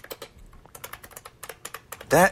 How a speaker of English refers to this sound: Well, this is a switch that when you press it, it buckles the spring out. It hits the switch, and that's the key. So it gives you a really nice, solid, and loud. Can you hear that?